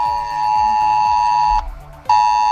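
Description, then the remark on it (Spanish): A loud, piercing emergency alert tone from mobile phones, warning of the AEMET maximum red alert for heavy rain, a steady high-pitched electronic tone with harmonics that cuts off briefly before sounding again, with no one speaking. “avisando de la máxima alerta de la EMET que entra en vigor a partir de las 9.”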